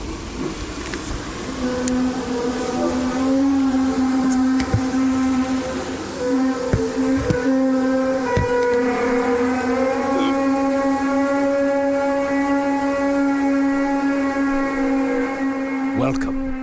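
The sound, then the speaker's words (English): A steady, low droning hum, the so-called British hum, holds one buzzy pitch with a layered, organ-like tone. It stays loud and unbroken throughout, with a few faint clicks scattered over it. “This is the British hum.”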